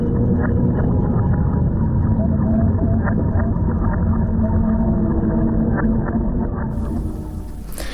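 Beluga whale vocalizations, a dense stream of chirps, clicks and whistles over a steady underwater rumble, continuous and fairly loud, thinning slightly toward the end.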